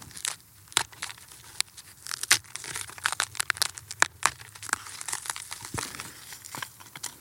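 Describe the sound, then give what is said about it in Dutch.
Dry, brittle dead wood, a charred piece of tree stump from a burnt-over area, is crumbled and snapped by hand, a dense run of sharp crackles and crunchy breaks in irregular bursts over faint background noise, with no one speaking. “Allemaal verdord hout. Stompjes, stam. Hier zie je nog een stukje van een boom. Ik kan het zo kapot maken.”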